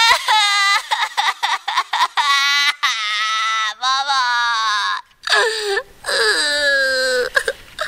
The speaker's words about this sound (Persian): از ترس گم شدن میزنه زیر گریه و بی اختیار پا میذاره به فرار.